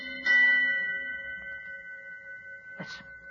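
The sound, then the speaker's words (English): A ship's bell aboard a fog-bound ship off an unknown coast rings out twice in freezing fog, a few seconds apart, each clang leaving a steady, shimmering tone that hangs in the air. Nobody speaks. “All through the night, the ship's bell aboard the Hero found its echo out in that freezing smother of fog.”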